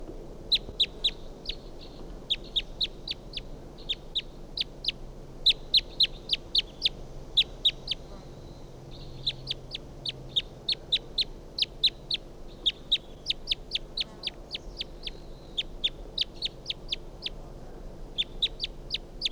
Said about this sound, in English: Wild bird here. Recording, I shot at that bird with a 22 and didn't get him. And this is him. Stop. So recording that bird again. Very strange.